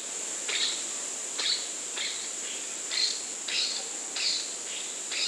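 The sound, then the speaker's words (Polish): Short, raspy grunting and coughing calls of male edible dormice searching for females in the trees overhead repeat about nine times in a loose, uneven rhythm over a steady high-pitched insect chirring. No one speaks. “I intensywnie nawołują chrząkaniem i kaszleniem.”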